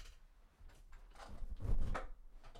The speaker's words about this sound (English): Sorry, just adjusting my chair here.